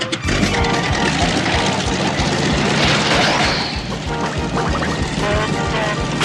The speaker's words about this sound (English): Looks like she's ready for another test. Fire that propeller thing up.